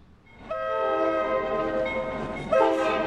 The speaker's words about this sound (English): Mom! The train! She's still in the store. She won't mind if I get a closer look. I gotta see this train!